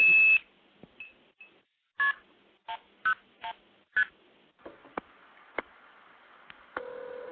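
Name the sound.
telephone touch-tone dialing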